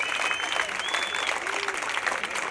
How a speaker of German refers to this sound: Ja, jetzt hast du deinen Applaus schon bekommen. Dann gib doch mal allen anderen den Applaus. Den Technikern, den Sanitätern, alle, die hier stundenlang das möglich machen, was hier möglich ist.